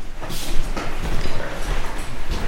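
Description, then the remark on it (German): A door is opened, with a few scraping, rattling bursts of handle and hinge noise over about two seconds, no voices. “Noch eine Tür.”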